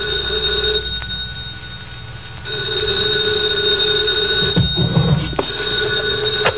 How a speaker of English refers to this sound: 2 o'clock in the morning, the phone rang.